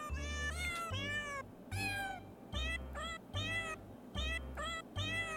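Synthesized cat meows pitched into a bouncy Christmas melody, one meow per note in a steady rhythm over a thumping electronic bass beat, loud with no talking.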